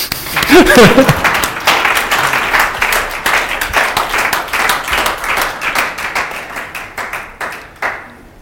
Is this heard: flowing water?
no